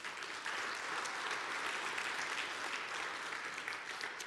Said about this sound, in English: and you can let them know by clapping your hands.